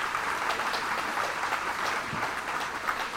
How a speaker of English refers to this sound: So give everybody a round of applause for being here.